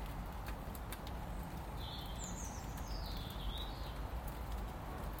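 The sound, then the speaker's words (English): Steady, even hiss of rain falling straight down with no wind on Tuesday, 18 March, heard from shelter under the lee of a shed, with a couple of faint, brief bird chirps rising above it midway through. “It's raining.”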